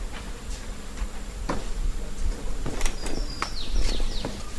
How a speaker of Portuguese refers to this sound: Escutou o macaco subindo?